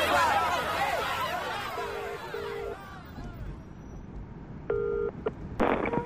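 Three short electronic keypad beeps from a cell phone being dialed in a limo, evenly spaced, after a burst of crowd chatter fades into quiet, muffled surroundings.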